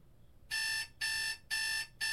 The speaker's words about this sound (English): Here we go again. Forgot to change the phone alarm sound, though.